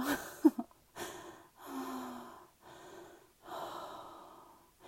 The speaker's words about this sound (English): You're breathing pretty heavy there, darling.